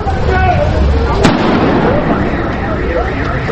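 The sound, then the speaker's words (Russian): A single sharp explosion, a controlled detonation of an unknown package carried out by experts, cracks out about a second in, a brief loud blast over steady outdoor background noise that continues afterward. “Раздался взрыв.”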